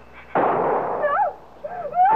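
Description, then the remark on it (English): A single loud, sharp gunshot bursts out and decays in a rough, noisy tail, followed by a voice shouting in raised, wavering tones. The shot is heard at 81 Brentwood Lane, where a fight in progress was reported. “I pulled up, got out of the car, and I heard a shot.”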